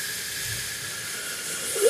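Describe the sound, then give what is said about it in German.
A long, slow breath drawn in through the nose during a breathing exercise (breathe in for four seconds), a steady airy hiss with a slight swell at the very end; no one speaks. “Also alle zusammen, jetzt machen wir mal, wir atmen jetzt 4 Sekunden ein.”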